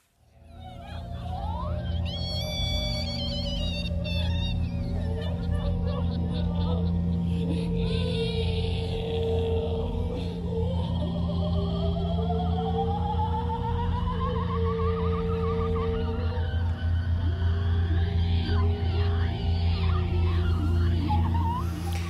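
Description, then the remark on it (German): Eerie, gliding howl-like cries of a female coyote in an opera's soundscape rise and fall over a steady low drone, with layered whistling tones shifting throughout a dense, sustained soundscape that stays loud from start to finish. “Wir hören den oder die Kojotin.”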